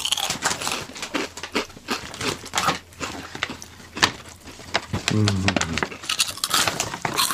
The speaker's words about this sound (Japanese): ちょっと車エビチップスも一回やってみよう、 うん、 この食感はこれ最高ですけどね、 うんうん、いい感じです。